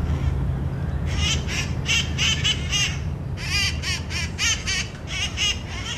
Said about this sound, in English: The green birds are hopping from branch to branch like little monkeys, drowning out the sounds of the cars below.